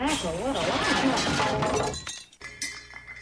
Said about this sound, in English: Suddenly, the aluminum space vibrator rose into the air, cracked open, and crashed like an express elevator, spattering pieces of hitchhikers all over the gutters.